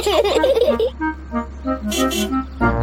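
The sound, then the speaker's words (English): In the Peppa Pig cartoon, a man's voice imitates Uncle Pig's loud, piggy snoring as he falls asleep after eating too much lunch: a string of rough, nasal snorts and grunts repeating in short bursts with brief pauses between them, fairly loud. “Uncle Pig always eats too much lunch and falls asleep, snoring loudly, like this.”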